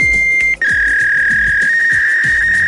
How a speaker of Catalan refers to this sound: Recordeu, és com obsolet ja, no? És el soroll d'un mòdem i ha estat substituït per aquests altres.